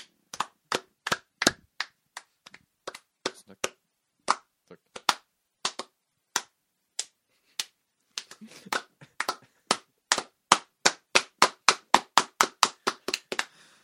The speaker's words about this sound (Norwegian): Du ser utrolig rar ut når du klapper, yes.